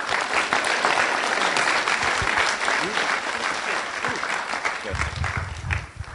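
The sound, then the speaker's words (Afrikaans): A crowd applauds the people just prayed for after a prayer, steadily for about six seconds, a dense, even wash of many hands clapping at once, with a few scattered voices mixed in toward the end. “Amen, kom ons geef hulle hande klap.”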